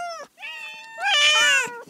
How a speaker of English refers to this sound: Hear that? That's the sound of 12 cats competing for my love and attention. Isn't that right, my little darlings?